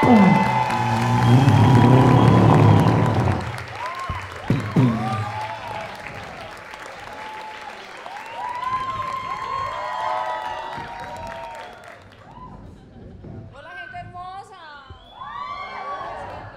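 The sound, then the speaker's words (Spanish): A loud burst of crowd applause and cheering as a woman is welcomed onto the stage fills the opening seconds, then thins into scattered high whoops, whistles and excited shouting from the audience that carries on to the end. “Por favor, reciban con un aplauso y una bulla gigantesca a esta mujer que nos dejó enamorados y los va a dejar enamorados.”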